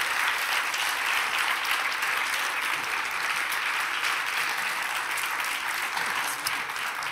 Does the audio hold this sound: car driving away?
no